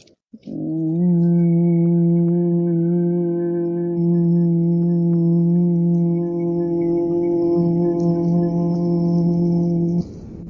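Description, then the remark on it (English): Voices hum together during a guided breathing exercise, inhaling and then humming in one long, steady, low-pitched tone lasting about nine seconds, holding a constant pitch and volume with no talking, then stopping abruptly. “And then inhale to hum.”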